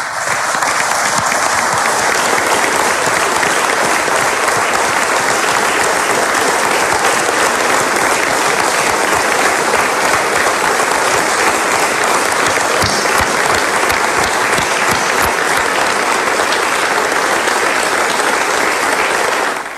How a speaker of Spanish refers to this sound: Antes de pasar a la jura de nuestro amigo Alexis, quiero que le demos un fuerte aplauso a Mario Meoni.